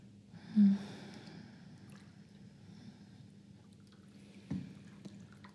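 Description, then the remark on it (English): Water sounds: a low, steady sloshing murmur with two brief splashes, one near the start and another toward the end, and no voices. “The water feels nice, though.”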